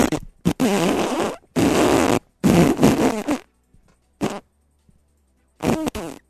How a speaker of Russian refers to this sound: Хочется подпустить газу, ну, выйди из салона своего. Ну, выйди просто, ну, выйди, делай вид, что увидел трясогузку прекрасную, тебе понравилась птица, и такой...